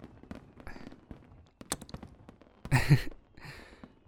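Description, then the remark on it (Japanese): Fireworks burst at a fireworks festival: a few sharp cracks, then a louder booming explosion with a crackling tail, followed by a softer pop. No one speaks. “ほら、花火が結構大きく見えるようになってきたよ。綺麗だね。花火大会、楽しいし”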